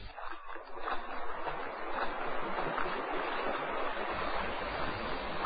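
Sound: river water flowing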